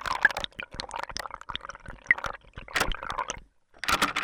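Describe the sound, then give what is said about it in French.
Water is poured into a dog's bowl in an irregular, splashy stream with bubbling gurgles, pausing briefly near the end before a final burst of pouring. “Je donne de l'eau à mon chien.”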